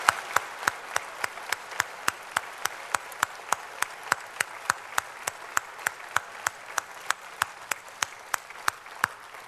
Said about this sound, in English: Remember, we're not applauding the man. We're applauding what God's done through the man.